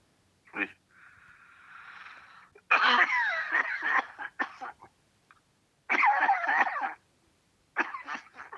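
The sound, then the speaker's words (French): A harsh coughing fit, with a wheezy inhale followed by several loud bursts of rapid, hacking coughs separated by brief pauses. “T'as une sacrée toux, hein?”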